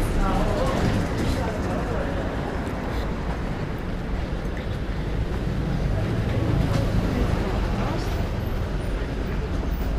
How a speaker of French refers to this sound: Alors ici, on traverse une rue, il y a beaucoup de trafic.